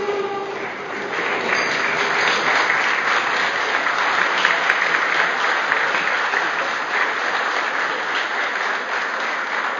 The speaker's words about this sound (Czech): Vás, zastupitele, prosím o povstání a poděkování potleskem.